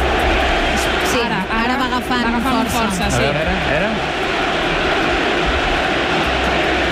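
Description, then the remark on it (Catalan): A football crowd chanting loudly, many voices singing a rising and falling tune over a dense roar, the chant strongest early on before settling into steady crowd noise. “Ara sí que se sent un crit, un càntic.”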